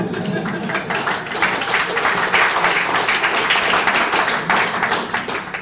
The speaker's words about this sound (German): Aber da wird dieses Prozedere, das immer abläuft, wo die Leute sich die Hände halb rund klatschen müssen, bis es endlich zur Zugabe kommt,